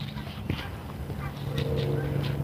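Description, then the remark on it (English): Geese honk intermittently against a steady outdoor background, with a low sustained tone and a few sharp clicks mixed in. “With more geese.”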